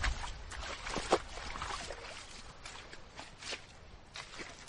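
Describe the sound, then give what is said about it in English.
Irregular squelching footsteps wade through puddles of shallow water and mud on a path, each step a wet splash with dribbling water between, steady and moderately loud, with no one talking. “Not for the first time, I find I need to interrupt recording to wade through some puddles.”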